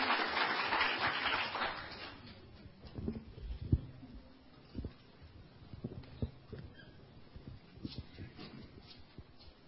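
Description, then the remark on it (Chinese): A church audience's applause, welcoming a sister to testify about God's work in her family's home, fills the first couple of seconds with a dense patter of claps, then fades, leaving scattered knocks and shuffling sounds. “我们也鼓掌欢迎姐妹见证主在他们家中，在他们生命中神奇美好的作为。”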